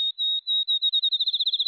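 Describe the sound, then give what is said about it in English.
A field sparrow sings alone in the dark an hour before dawn on a July morning in the Wisconsin countryside: sweet, high whistled notes begin long and evenly spaced, then come faster and shorter, speeding into a quick, bouncing trill at a steady pitch. “A field sparrow announces the new day.”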